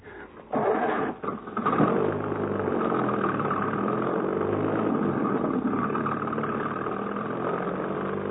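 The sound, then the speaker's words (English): An old car, the "Devil Wagon", turns over and catches, then settles into a steady, rumbling idle with a low, throbbing drone that holds for several seconds. “Mount Devil Wagon at once, son.”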